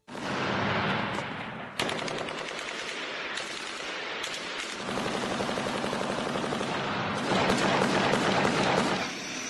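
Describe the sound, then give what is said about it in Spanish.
Loud, sustained bursts of rapid machine-gun fire overlap with heavier booming artillery shots, a dense battlefield barrage that swells toward the end and ends in an explosion, with no voices; recorded during a recent massacre. “Ametralladoras, artillería, al final viene una explosión y esto es la masacre del otro día.”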